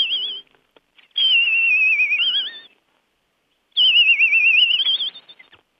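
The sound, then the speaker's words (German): A person whistles an imitation of a European robin's song in three phrases of high, wavering, warbling notes separated by short pauses, with no talking. “Und als Vogel können wir mal nehmen, meinetwegen das Rotkehlchen.”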